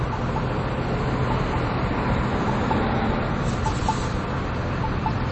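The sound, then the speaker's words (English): Steady street traffic at a crossing on Ewing, heard while waiting to cross: a continuous, even roar of passing vehicles with a heavy low rumble, holding constant throughout with no voices. “I guess we could press the light button, but we'll just go with traffic.”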